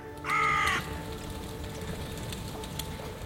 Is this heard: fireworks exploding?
no